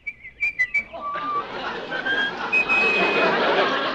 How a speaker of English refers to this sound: Stop whistling that! It's our song.